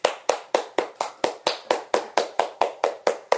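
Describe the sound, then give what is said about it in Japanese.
Steady, evenly paced clapping, about thirteen sharp claps in quick succession, moderately loud. It sounds like a single pair of hands rather than a full crowd, with no voices. “改めてもう一度拍手をお願いします。”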